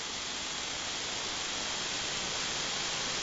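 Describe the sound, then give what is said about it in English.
A steady, unbroken hiss of amateur radio static fills the gap between transmissions, received on a beverage antenna with a noise floor of about S2, even and fairly loud throughout with no voices or tones breaking through. “Yeah, absorption's getting you too, but it's also getting the static.”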